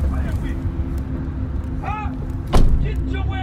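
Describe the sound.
A car's low engine rumbles steadily as a woman on her way home from dinner with friends parks it in Compton, with a single solid thud partway through and faint voices murmuring in the background.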